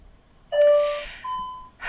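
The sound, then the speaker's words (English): The speaker's home Ring doorbell chime sounds two sustained electronic notes, a lower tone followed by a higher one, each ringing for about half a second over a soft breathy hiss, with no talking. “Do you guys hear that noise? That's my house.”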